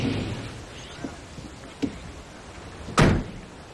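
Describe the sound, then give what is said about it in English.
A truck door slams shut with a solid thunk near the end as a man gets out of the truck after pulling up, preceded by a couple of lighter knocks and clicks over a low idling rumble. “Will pulls up and gets out of the truck.”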